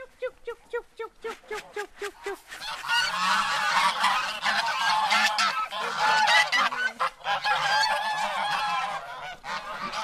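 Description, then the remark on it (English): A flock of geese reared on a farm in County Limerick, Ireland, for Christmas honks, starting with a quick run of repeated single honks before swelling into a loud, continuous overlapping chorus of cackling calls. “She not only cooks a goose for Christmas, but she rears a flock of them in preparation for the celebrations.”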